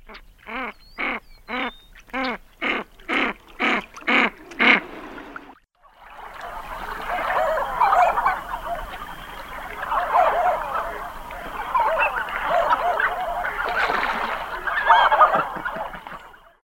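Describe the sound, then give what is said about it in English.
A canvasback duck gives about nine loud, evenly spaced squawks, then a dense, continuous stretch of warbling and chattering calls follows, fairly loud, with no voices. “If you guessed a canvasback, you're right.”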